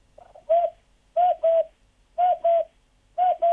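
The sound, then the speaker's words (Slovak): A naturalist imitates a common cuckoo's call: four clear two-note 'cu-coo' phrases repeated at a steady, even rhythm, fairly loud against a quiet background. “Pre ráno to som sa prihovoril aj za kukučku obyčajnú.”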